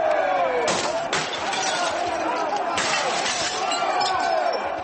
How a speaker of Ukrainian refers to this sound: Протестуючі розбили вікна в будинку та вступили в сутички з поліцією.